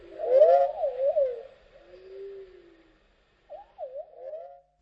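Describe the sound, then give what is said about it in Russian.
Wavering, warbling bird-like calls in two phrases, a longer swooping run, a low sustained tone, then a brief pause before a shorter trilling burst, from a recording of musical improvisations accompanied by birdsong and other natural sounds. No talking. “на котором записаны его импровизации в сопровождении пения птиц и других природных звучаний.”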